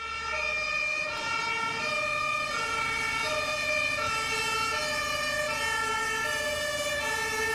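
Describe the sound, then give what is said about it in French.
A fire engine's two-tone siren wails loudly and steadily as firefighters arrive, alternating between high and low pitches, with a low rumble of traffic beneath and no talking. “Les pompiers arrivent.”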